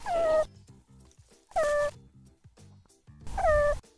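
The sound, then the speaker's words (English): A meerkat's move call, made when meerkats want their group to speed their hunt for food, obtained from the University of Zurich, sounds three times, each a short, bright descending squeal with harmonics, evenly spaced over a few seconds with quieter low chatter between them. “Here's what the meerkat move call sounds like.”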